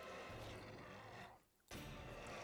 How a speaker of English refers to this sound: Huh, a wolf. What is that? Half man, half wolf?